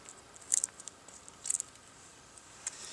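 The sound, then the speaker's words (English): A pull-tab food can, bought at a local grocery store, being opened: a few quiet, sharp metallic clicks and crackles spaced about a second apart, with no talking. “Most of you are familiar with the way these cans open.”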